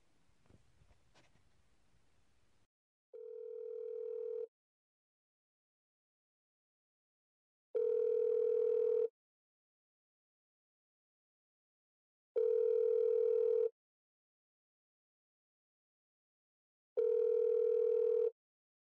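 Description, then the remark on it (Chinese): Following a brief low rustle, a telephone ringback tone sounds four times as a woman places a phone call, each steady tone lasting about a second with long silent gaps between, clear with no voices. “那我现在打电话给老钟。”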